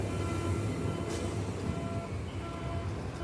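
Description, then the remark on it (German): A steady, heavy rumble of a full S-Bahn commuter train pulling away from the station, low and continuous with a faint hiss above it, unbroken for the whole stretch. “Ich sehe eine volle S-Bahn, die abfährt.”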